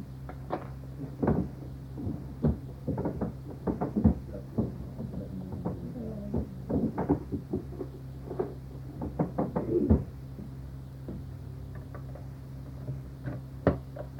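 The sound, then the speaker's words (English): A drawer holding blank tapes is opened and rummaged through: irregular clunks, clicks and knocks of objects shifted over a low steady hum, busiest early on, then thinning to a few scattered taps. “There are some blank tapes in the drawer here.”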